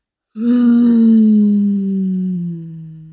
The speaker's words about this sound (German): Wir atmen doppelt ein und wir atmen aus. Mit Ton. Wir atmen doppelt ein und dann ein Summen, ein.